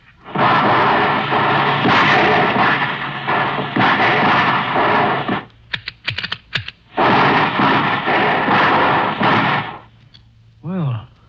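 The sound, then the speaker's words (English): Three quick, loud volleys of rifle fire, fired one toward a fallen tree in a clearing, one to the right and one to the left, well above the height of a standing man: two long, dense stretches of rapid crackling shots with a looser scatter of sharp cracks between them, then a brief wavering tone. “All right, kids, let's give them 3 quick volleys.”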